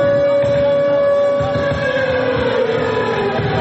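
An air raid siren wails continuously at a loud, steady pitch with a slight downward drift, over a rumbling, crowded background, marking the start of a humanitarian concert for Ukraine in Belgrade; no one speaks.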